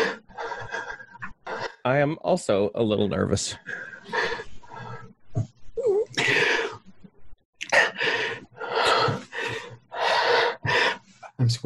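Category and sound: human body sound, heavy breathing and gasping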